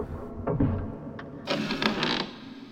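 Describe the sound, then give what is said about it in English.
A door into a vestry is opened with a short mechanical clunk, then a louder scraping, rattling stretch as it swings, with no one speaking. “There's a door here.”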